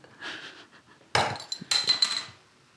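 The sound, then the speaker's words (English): A shaken fizzy drink bottle is cracked open with a bottle opener with a sharp hiss, followed by a second burst of bubbly fizzing that fades within a second. No one speaks. “I've just shook it for the fizz. It's going to fizz over.”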